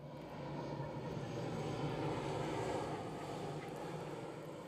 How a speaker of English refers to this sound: All right, okay, so we're getting on the plane. Plane's about to take off. Here we go.